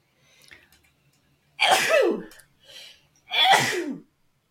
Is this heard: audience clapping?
no